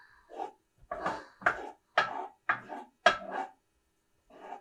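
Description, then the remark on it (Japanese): A utensil scrapes around a cooking pot, stirring garlic being sautéed in olive oil, in about six short, rhythmic strokes, moderately loud, with brief pauses between them and no voices. “鍋の混ぜる音が聞こえて、あんまり声とか聞こえないんじゃないかなと思うんだけど、とりあえず一段落するまでつけかけますね。”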